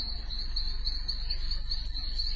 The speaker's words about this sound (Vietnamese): Từ sân ra tới đường, chung quanh tối như mực và vắng ngắt. Chỉ có tiếng lá cây xào xạc và tiếng dế râm ran.